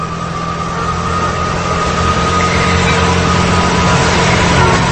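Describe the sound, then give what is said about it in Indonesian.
A motorcycle engine sputters as the throttle is opened while it is ridden, with a rough, low rumble and a buzzy hum, holding a fairly steady level throughout with no speech. “Awalnya motor yang kukendarai berjalan tersendat-sendat.”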